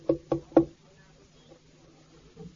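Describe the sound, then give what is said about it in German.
Three firm knocks on a door from outside in quick, even succession, loud, followed by near silence with only a faint low murmur. “Er klopft von draußen an.”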